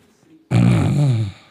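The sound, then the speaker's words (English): A person imitates a single loud snore, a rough, throaty rasp lasting under a second that starts abruptly after a short quiet pause. “In that time where our brain is at its peak performance, we are snoring.”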